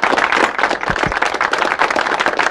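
A crowd claps steadily, many hands producing a dense, continuous crackle of applause that holds at an even, fairly loud level throughout, with no voices standing out.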